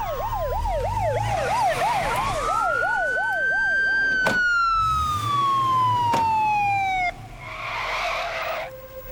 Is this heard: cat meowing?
no